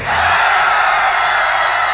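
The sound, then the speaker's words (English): A large crowd screams loudly all at once, a dense sustained roar of many voices that fills the whole two seconds without letting up. “Scream as loud as you can.”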